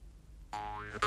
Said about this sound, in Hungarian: Én vertem be ezt a hülye fejemet az ajtó félfába.